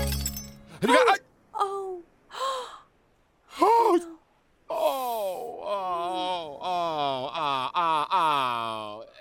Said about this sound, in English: You see? You broke it. Baccarat crystal. Sorry. Sorry? Sorry? What good is sorry? It's broken.